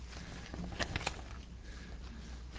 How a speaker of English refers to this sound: Good Lord said we needed rain today, so we're getting rain.